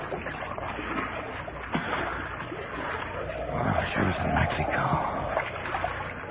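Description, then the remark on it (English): Water splashes and sloshes steadily against a boat, a continuous churning wash that swells slightly louder toward the end, with muffled voices beneath it. “Gotta hang on to the boat.”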